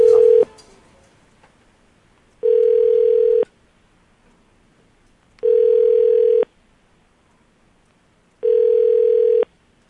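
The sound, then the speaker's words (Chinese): A telephone ringing tone, as a call is placed again, sounds in four steady, mid-pitched beeps, each about a second long, spaced by roughly two seconds of near-silence, with no voices. “喂， 我们再打一下看看。”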